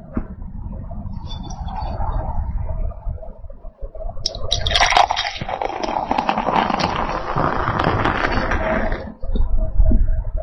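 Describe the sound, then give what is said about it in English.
A steady pour of amber Märzen beer into a glass, starting with a low gurgle and swelling into a bright, fizzy rush for about five seconds before stopping abruptly. “Here goes the pour.”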